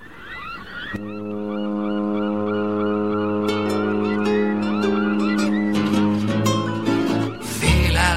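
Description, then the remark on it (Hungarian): A long, loud horn blast from a large ocean-going ship: one deep, steady droning tone that holds for about six seconds, with scattered higher chirping sounds layered over it before it cuts off. “Hajó kémény, rettenetes hajó tuta, aztán jön a hajó maga”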